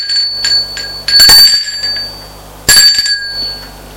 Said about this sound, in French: On a sonné à la porte.